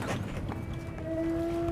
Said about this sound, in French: Et ça, les fameux globicéphales qui gazouillent.